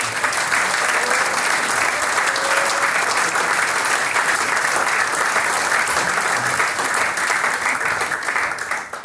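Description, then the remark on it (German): An audience in Eigen im Ennstal applauds a choir (the men's and women's choir, Eigenklang) steadily for the full nine seconds, a dense, even wash of many hands clapping at a constant loud level with no voices standing out. “Jetzt kriegt ihr mal einen Applaus.”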